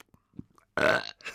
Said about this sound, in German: Der Rülpsen. Ja, wirklich. Ich finde, wir sollten diese Rhythmusgruppe wirklich auflösen. Das ist in geschlossenen Räumen einfach irgendwie nicht angebracht.